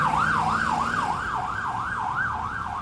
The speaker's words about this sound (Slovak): Vozidlo sa pohlo a majáky začali hulákať.